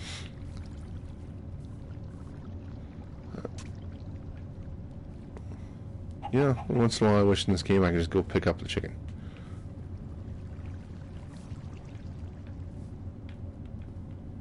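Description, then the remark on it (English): A steady wash of rushing water from a waterfall in a video game fills the background throughout, with a person talking over it while trying to get a chicken across the waterfall, and a brief burst of bright, tonal squawking partway through. “See if this I can get this chicken across this waterfall.”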